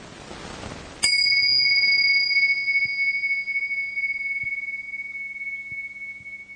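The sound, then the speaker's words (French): A small bell is struck once and rings out clearly, its bright pure tone sustaining and slowly fading over several seconds, with faint low background noise beneath. “Voilà, je commence par un petit son de cloche pour que dans cette unité-là, nous commencions à écouter ce son.”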